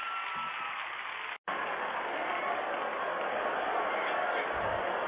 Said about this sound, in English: We're back. Yo, give my man a round of applause. Kick Capri.